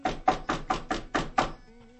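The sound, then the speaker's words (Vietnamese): A quick series of seven firm knocks on a door by a lawyer's assistant before he steps in, evenly spaced and fairly loud, followed by a faint low hum as the knocking stops. “Có tiếng gõ cửa.”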